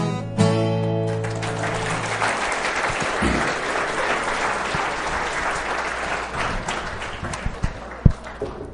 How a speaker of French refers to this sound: J'espère que tous ces applaudissements sont pour le Seigneur, parce qu'il est merveilleux, n'est-ce pas? Victorieux, toujours victorieux, n'est-ce pas? Toujours glorieux. Ces applaudissements, bien le mérite, lui.